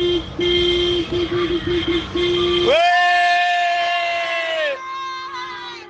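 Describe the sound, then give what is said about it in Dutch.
A crowd of Italians celebrates noisily in the street in Ventimiglia, dancing and screaming with flags, with rapid repeated horn toots over the din, then one long sustained horn blast as the cheering carries on around it. “I'm just saying, I don't know if you can hear, but we are all on the street, dancing and screaming with our flags and just being Italians as fuck.”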